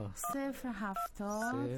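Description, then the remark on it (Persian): A phone number being dialed to call the speaker's father: three short electronic keypad beeps, evenly spaced, ring out clearly over a voice that keeps humming or talking in the background. “آخه تو زنگ بزن، من خودم میخوایم کتش گپ بزنم، دلم بر صداش خیلی تنگ شده.”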